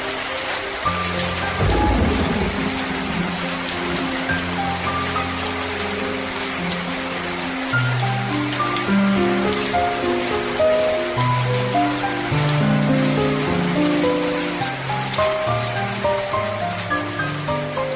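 Heavy rain pours down steadily throughout, a dense hiss of drops, with a low roll of thunder rumbling early on. No voices are heard.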